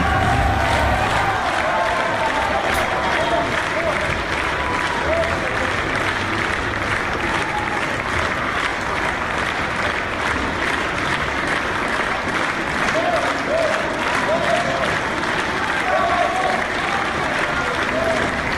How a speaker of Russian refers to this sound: Давайте посмотрим, вот как вчера встречала публика, вот вчерашнее представление, это я снимала вот телефоном, ну, в таком виде, конечно, в любительском, но посмотрим вот эти аплодисменты, овации.